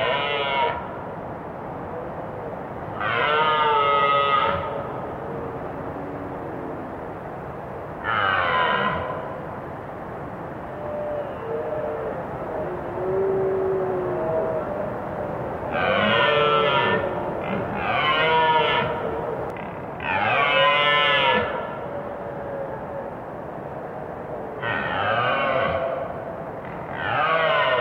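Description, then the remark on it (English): Red deer stags roar during the October rutting, or mating, season: about eight loud, harmonic, groaning calls of a second or two each, some overlapping, over a steady rushing river. “Richard Margoshis recorded their roars against the background of a river.”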